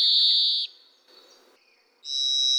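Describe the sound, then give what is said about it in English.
A varied thrush sings two long, buzzy whistled notes, the second higher in pitch, separated by a pause of faint rustling. Loud, with no voices. “Remember, when you hear this sound, that's the varied thrush, our bird of the month.”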